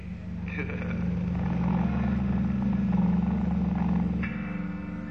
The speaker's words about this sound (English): Hope the plane don't crash.